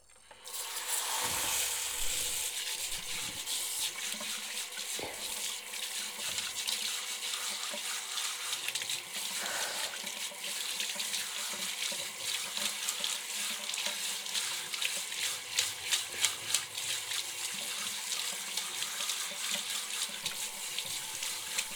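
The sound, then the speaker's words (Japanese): Steady running water from a shower sprays without a break for about twenty seconds, rinsing off foam, a dense hiss with faint splashing and spattering shifts as the stream moves, no voices. “そろそろシャワーで泡泡流すよ。”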